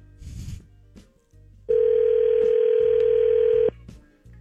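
A phone call rings through on a burner phone: one loud, steady electronic ringback tone lasts about two seconds, with faint handling noises and quiet background before and after it. No one speaks.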